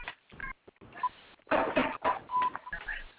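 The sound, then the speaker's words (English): Several short electronic beeps on the telephone line of the Purium Lifestyle Call, a Wednesday evening group call, spaced irregularly, with one held a little longer, set against muffled, crackly line noise that rises and falls. “Hearing lots of beeps.”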